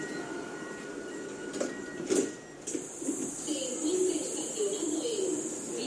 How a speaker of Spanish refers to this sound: Es el sonido más actual de los trenes de nuestra región. Son los más utilizados por los madrileños, los famosos cercanías. Hay más de 1.300 empleados que cada día los ponen en marcha para recorrer 370 kilómetros de vía.